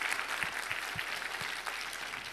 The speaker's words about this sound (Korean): 우리 하나님께 감사와 영광의 박수를 올려드리겠습니다.